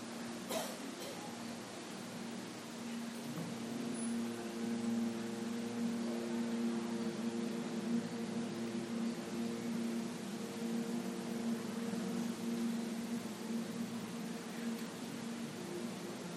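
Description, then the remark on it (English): A person hums one long, steady, low nasal tone during the Brahmari breathing practice, imitating a buzzing bee. The hum is sustained at an even pitch and loudness for the whole clip, with no talking. “Join me for one round of the Brahmari, sound of the peaceful humming bee.”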